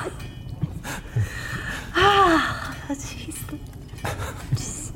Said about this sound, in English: You out of breath again? What's going on?